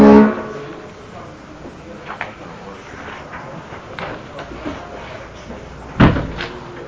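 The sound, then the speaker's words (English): A door shuts with a single solid, loud thud near the end, after a stretch of quiet background noise with a few faint knocks and rustles. “Someone closed the door.”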